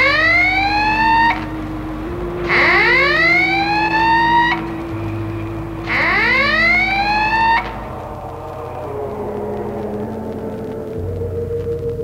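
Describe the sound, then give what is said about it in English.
A loud wailing siren from a police plane zooming down swoops upward in three repeated rising sweeps over a steady low engine-like hum, with no one speaking. “Uh-oh, a police plane has spotted it. It's zooming down, broadcasting instructions to stop.”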